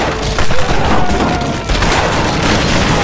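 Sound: gunfire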